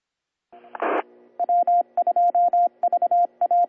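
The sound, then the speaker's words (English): A radio repeater time-out signal: a short hiss of static, then loud, rapid electronic beeps in quick repeating groups, clear with no voices. “Once again, we timed it out. Stand by while I reset the machine.”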